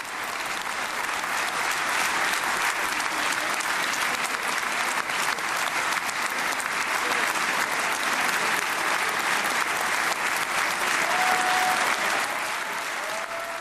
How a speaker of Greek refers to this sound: Σε λίγο θα συνδεθούμε, φίλες και μπορούμε να συνδεθούμε με την Κνεσέτ. Για να ακούσουμε, να έχουμε λίγο ήχο, ακούτε τα χειροκροτήματα που σας έλεγα πριν από λίγο.